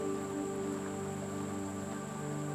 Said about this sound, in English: You can hear the wind and the rain outside your cottage, but it doesn't bother you at all because you are here in this beautiful, warm and friendly place, feeling ever so welcome.